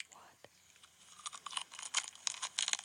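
Crisp crunching as a woman bites and chews a deep-fried sugar corn dog in a mukbang ASMR video, with a rapid, irregular series of crackly bites growing louder after a quiet start.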